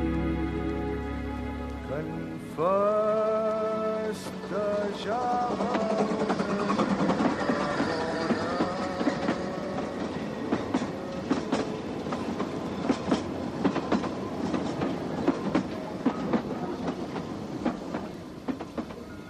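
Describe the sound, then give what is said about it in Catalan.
A train, just out of a tunnel and leaving Barcelona behind, rolls steadily along the rails, its wheels beating out a regular clickety-clack over a continuous rumble that holds for the whole stretch. “El tren ha sortit del túnel i la Laura cuita abocar-se a la finestra.”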